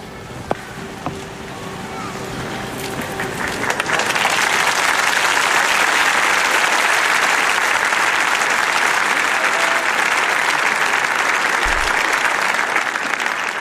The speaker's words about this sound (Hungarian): Az újabb tapsvihar köszöni, illetve köszönti a Szentatyát. Ezzel búcsúznak a Szent Damazusz téren jelenlevő hívek, zarándokok a Szentatyától, és ezzel köszönünk el mi is a kedves hallgatóktól.